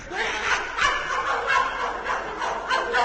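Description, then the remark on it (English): A hypnotized person, told they are a puppy dog and that a stranger is coming in the front gate, imitates a dog barking, but the yelps come out high and crowing like a rooster, several quick bursts in a row, fairly loud. “Aha, aha, who ever heard of a rooster barking?”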